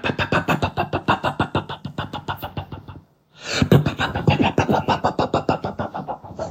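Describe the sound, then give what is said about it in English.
An engine chugs in fast, uneven pulses, cuts out completely for a moment, then sputters back to life and keeps running roughly. It is fairly loud, with no talking. “And then suddenly, the engine started doing.”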